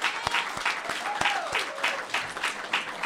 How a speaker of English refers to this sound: So a round of applause, if you will, for us.